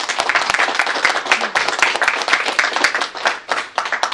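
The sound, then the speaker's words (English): A crowd applauds steadily at the end of a talk, many hands clapping in a dense, continuous patter at a fairly loud, even level throughout, with no voices rising above it. “Well, round of applause, please.”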